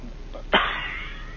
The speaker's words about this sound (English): Dang it, that cough comes up.